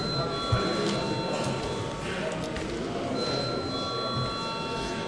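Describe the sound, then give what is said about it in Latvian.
A steady electric bell rings continuously for several seconds in a parliament before a vote on a bill, a sustained high, tinny tone held at an even level over a low murmur of background chatter. “Paldies, lūdzu zvanu.”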